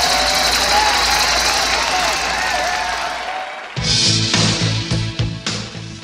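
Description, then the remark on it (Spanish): A crowd applauds and cheers loudly for about three seconds for the winners of a music countdown on Radio Caibarien, a dense wash of clapping with shouts on top, before it cuts off and rhythmic music begins. “Para ellos el aplauso que se les da a los ganadores.”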